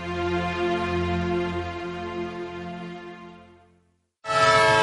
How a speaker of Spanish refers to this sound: Un tren que se va.